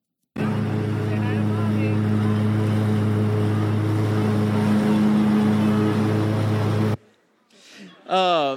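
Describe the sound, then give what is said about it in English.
A lawn mower engine runs steadily for about seven seconds with a loud, constant low rumble while a lawn is mowed with a young boy riding on the mower, then cuts off abruptly, followed by a brief high-pitched voice. “So what you can't hear him over the sound of the mower is him screaming, "I really like this.”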